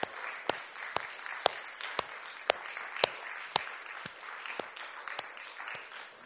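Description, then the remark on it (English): An audience applauds steadily, a dense wash of clapping with a few sharp, louder claps standing out at a regular rhythm, sustained throughout. “I think we should give Aaron just a round of applause for stepping out”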